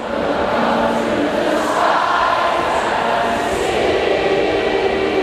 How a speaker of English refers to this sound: Gave me chills. Listen to this. Crowds are noisy. Listen to this. That's the crowd.